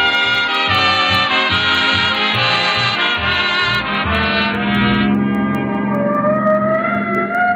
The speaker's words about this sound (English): Oh, the siren. Now, that's on our car. I put it on this morning.